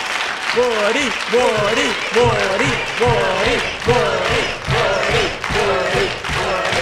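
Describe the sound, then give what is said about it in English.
A crowd applauds loudly and steadily throughout, a dense wash of clapping that never lets up, while a man's voice speaks over it in repeated rising phrases. “And God bless you for that wonderful, warm, and generous applause.”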